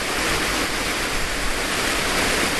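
waterfall

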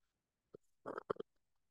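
sipping coffee

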